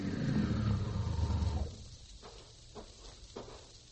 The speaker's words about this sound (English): Well, there's a car.